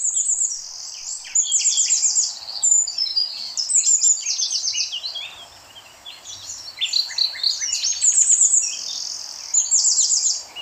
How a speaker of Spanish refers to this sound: Conforme los días se vuelven más cálidos y más largos, un manto floral multicolor cubre los pastos, mientras las aves canoras bañan con sus más elaborados trinos el monte.